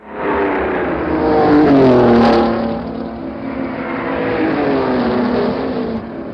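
At the start of a race, after a countdown and with the drivers having sprinted to their cars, a pack of race car engines roars loudly and continuously, pitch climbing as they accelerate away together, a dense, overlapping mechanical howl that swells early and stays strong throughout.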